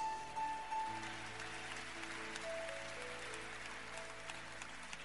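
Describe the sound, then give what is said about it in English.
A crowd claps steadily for several seconds in response to a reading of Psalm 81 verse 10, a dense patter of many hands, while sustained keyboard or organ tones hold underneath. “You haven't heard the revelation, but you start clapping for Psalm 81 verse 10.”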